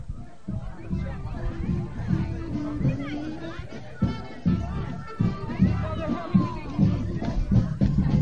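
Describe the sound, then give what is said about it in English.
A large protest crowd, with people holding signs, murmurs and chatters continuously, many overlapping voices forming a steady hubbub with occasional higher children's voices rising above the babble. “This crowd just gets bigger and bigger.”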